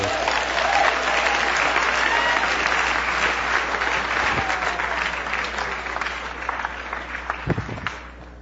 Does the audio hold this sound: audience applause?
yes